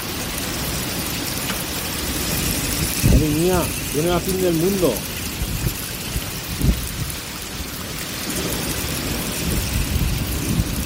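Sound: hailstorm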